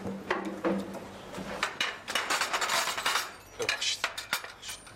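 Spoon and dishes clink and clatter in a steady jumble of sharp metallic taps and scrapes, fairly loud, with brief bumps like a drawer or cupboard moving, as someone fetches a spoon for lunch.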